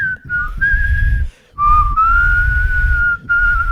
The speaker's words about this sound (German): Ist doof, wenn man lachen muss, kann man nicht pfeifen. Ja, ich habe das jetzt nicht gepfiffen, weil ich wusste, dass ich lachen muss. Versuch mal jetzt, wenn du lachst, zu pfeifen. Krass, professioneller Pfeifer.